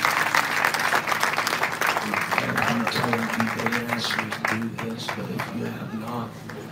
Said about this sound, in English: Can we clap our hands together? Amen. For this praise team. These musicians, come on, clap your hands unto the Lord. Marcus Ministries, come on, clap your hands together.